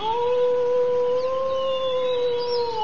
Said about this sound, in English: Coyote? Yeah.